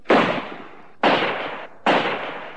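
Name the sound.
gunshot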